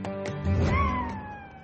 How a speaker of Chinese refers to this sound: 这不仅仅是这位女士的爱犬像狼一般的嚎叫，还是她在自己的智能手机上听到的波形刺青。